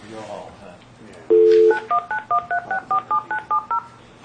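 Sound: telephone keypad beeps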